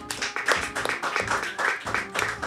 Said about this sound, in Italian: Grazie per essere venuti, arrivederci. Grazie, un applauso.